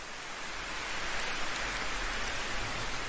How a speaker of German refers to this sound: Dieser Ort, an dem du bist, schützt dich vor dem Regen und lässt gerade so viel Geräusch und ganz sanften Windzug zu dir dringen, dass du spürst, dass du mit der Welt verbunden